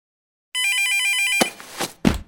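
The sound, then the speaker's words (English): A mobile phone rings with a bright, sustained electronic tone for just under a second, then cuts off abruptly as a woman in a kitchen grabs it from the front pocket of her jeans, with a few sharp handling clatters and rustles. “She rushed to the island in the kitchen, dropped the bags on the counter, and grabbed for her phone from the front pocket of her jeans.”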